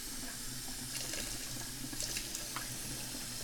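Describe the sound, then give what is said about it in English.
Water runs steadily from a tap into a sink to get drinking water for a cat, a continuous hissing splash with faint clinks and no voices, for a few seconds. “Now we gotta get the kitty some kitty water.”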